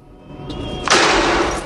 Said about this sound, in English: The wind causes a sign to fall over.